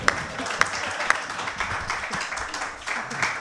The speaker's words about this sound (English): So let's clap for her.